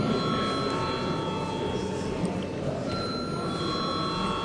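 A parliament chamber bell rings steadily for several seconds before a vote on amendments to the aviation law, a continuous bright metallic tone that holds at an even loudness over a low murmur of background noise.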